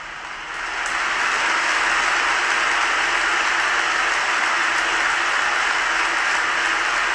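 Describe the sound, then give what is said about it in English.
A large crowd applauds the words "Always love the Church", a dense, steady roar of clapping that swells within the first second and then holds loud and even for several seconds, with no voices heard. “Always love the Church, which is being welcomed by a lot of applause.”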